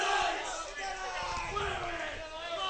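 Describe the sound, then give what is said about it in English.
A steady roar of crowd noise at a postseason baseball game as California fans cheer on the batter Weston, with many voices cheering and shouting together in a sustained, dense wash that holds at an even loudness throughout. “California continues to be vocal in cheering on Weston, who looking for his 15th RBI of the season.”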